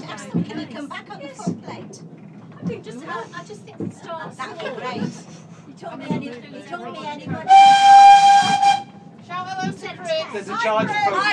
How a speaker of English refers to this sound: It is too noisy. We're very loud people on this train. That's why it's going so slowly.